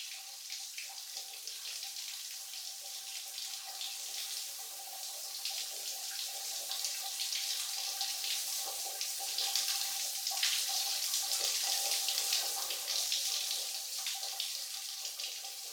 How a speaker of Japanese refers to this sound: これで背中の泡、きれいに洗い流すことができました。